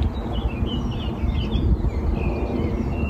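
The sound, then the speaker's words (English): Faint birdsong chirps and trills drift over a steady, heavy low rumble of a plane passing overhead, outdoors in a field near Bremen, Germany, under a major air corridor, with no one speaking. “I mean, you can hear the planes, but you can also hear the birds, hopefully.”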